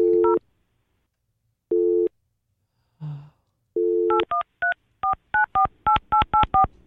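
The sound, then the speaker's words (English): A phone number is dialed: after a few short low electronic tones and a brief breathy noise, a quick run of about a dozen bright touch-tone beeps follows in steady succession. “Have you tried calling him again?”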